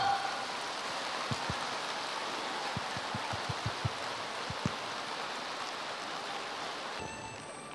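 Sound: warm applause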